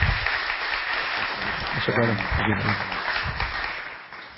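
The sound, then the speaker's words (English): An audience claps steadily to welcome a guest couple coming to minister the word, in a dense, continuous wash of applause, with a brief voice calling out partway through, and the clapping tapers slightly toward the end. “Would you welcome them with a round of applause as they come to minister the word today?”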